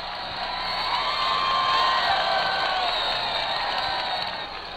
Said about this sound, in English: You can hear the burst of applause, I'm sure, from the microphones. I'll turn it around for just a moment so that you may get the full force of it.